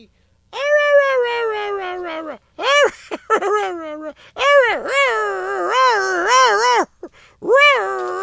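A dog howls and whines in several drawn-out, wavering cries that rise and fall in pitch, separated by brief pauses, loud and sustained over the whole stretch.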